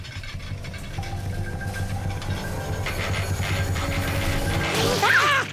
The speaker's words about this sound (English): Hang on, the washing machine's sounding a bit funny and it's beginning to shake.